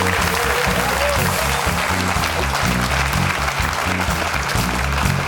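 applause sound effect

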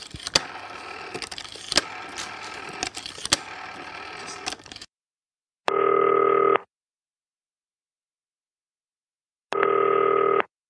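telephone call ringing tone

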